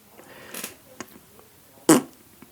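A short, loud fart bursts out near the end, preceded by a softer, raspier puff earlier on, with small scattered noises between them and no one talking.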